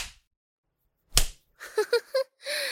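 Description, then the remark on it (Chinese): A single sharp slap across the face cracks out of near silence, followed by a few short voiced sounds and a longer held vocal tone; in a story, a female demon slaps Sun Wukong, the Monkey King. “孙猴子，被扇耳光的感觉爽吗？”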